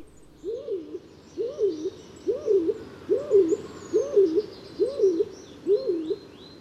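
A stock dove coos in a steady series of about eight low, rounded two-part calls, evenly spaced, while faint birdsong twitters in the background.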